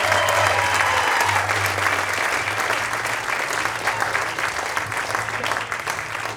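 Sustained audience applause welcoming a performer to the stage, a dense steady wash of many hands clapping at a fairly loud, even level for several seconds, with a low hum running underneath.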